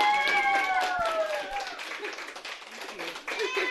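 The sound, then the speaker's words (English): A classroom of students claps steadily for their teacher, just named Teacher of the Month, a dense patter of hands, while excited voices call out and chatter over the applause throughout. “How about a round of applause for your teacher?”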